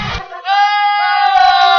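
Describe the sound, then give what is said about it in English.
A goat lets out a long, strained, human-like scream, loud, holding a wavering pitch for over a second after a short noisy burst at the start. “Rather, our brains are just so fine-tuned to pick out language that we can't help but hear words in their maniacal screams.”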